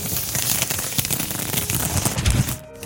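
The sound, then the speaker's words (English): A roll of carpenter's paper being unrolled: a dense, continuous crackling rustle with scattered sharper snaps, holding steady for about two and a half seconds before cutting off abruptly. “Here I am unrolling 350 yards of carpenter's paper.”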